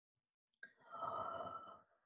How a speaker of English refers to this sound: Oh, yawning. I guess yawning is like the gentlest way.